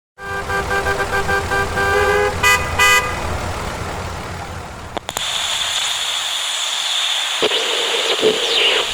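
Busy street traffic with a car horn honking repeatedly over the engine rumble for several seconds, then a noisier hiss of passing vehicles with a couple of sharp whooshes.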